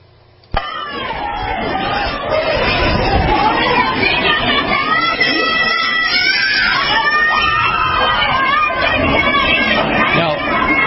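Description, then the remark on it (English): A crowd yelling at a church, with people inside pushing pews against the doors and women outside screaming: many overlapping raised voices form a dense, continuous din that begins abruptly and stays loud for the whole stretch. “You can hear the yelling.”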